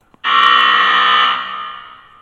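A loud, harsh basketball buzzer sounds once at the end of the second quarter to mark halftime, blaring steadily for about a second before cutting off and leaving a fading echo.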